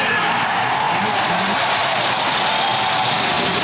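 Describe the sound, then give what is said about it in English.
Race car engines at the 1977 Indianapolis 500 start and then rumble and roar steadily for a few seconds, a dense, continuous mechanical din with no clear pauses or individual revs standing out, and no voices. “In company with the first lady ever to qualify at Indianapolis, gentlemen, start your engine.”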